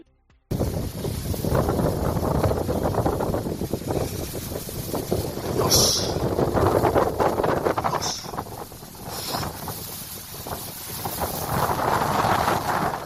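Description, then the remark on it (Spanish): Steady rain pours down in Sóller in a dense, hissing wash of noise, with gusty surges in loudness and a few brief brighter splashes; no voices are heard. “Y esto que escuchas son lluvias de hoy en Sóller.”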